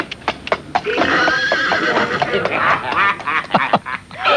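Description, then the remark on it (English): A horse neighs and whinnies loudly, its quavering call rising and falling over a few seconds, with sharp hoof clops punctuating the start and end. “Maybe they have to go in by horse now. Speaking of horses...”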